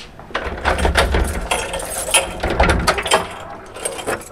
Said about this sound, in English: Using a large brass key, Denise Osborne, the chief engineer at Law Elementary School, opens a heavy gray door